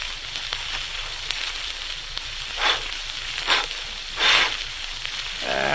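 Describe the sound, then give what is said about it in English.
A steady hiss of fire with scattered sharp crackles, swelling in three short bursts of louder rushing flame as it catches, as a camper tries to get a campfire started in the wastelands of western Colorado. No voices. “But now I'd like to go back a number of years to the wastelands of western Colorado, where a camper is trying to get a campfire started.”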